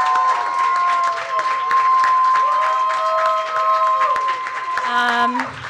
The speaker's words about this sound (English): Also, very importantly, please, the biggest applause that you have in you, again, thank our wonderful guests,